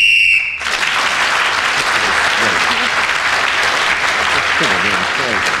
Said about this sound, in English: Well, Clement Freud was then speaking when the whistle went. He gained the extra point.